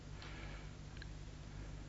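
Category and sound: household object, clock ticking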